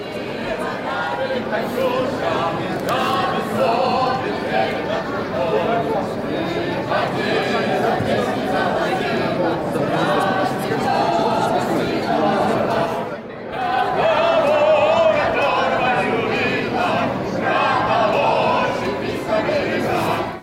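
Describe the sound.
In the arrival hall of Seoul airport, a large crowd of fans and organizers welcoming Russian athletes sings the Russian folk song Katyusha together, many voices blending into a loud, continuous roar that dips briefly partway through before swelling again.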